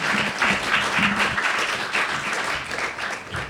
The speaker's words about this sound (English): And I first want to ask Samer Yazbek to come forward. Yeah, she deserves an applause.